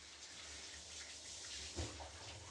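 A shower runs steadily, a continuous even hiss of spraying water with one soft low bump partway through. No one speaks.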